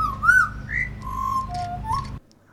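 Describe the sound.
A person whistles a butcherbird call, a flowing run of clear, mellow notes that slide up and down in pitch, ending abruptly over a steady low hum.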